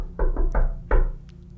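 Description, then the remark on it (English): A friendly knock on a door: three quick raps followed by a brief pause and one final knock, fairly loud, with no voices. “Calder, is it crazy if you do your little knock? Yeah, Calder's going to try the friendly knock.”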